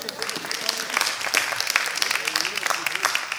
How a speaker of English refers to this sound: Go on and clap for that.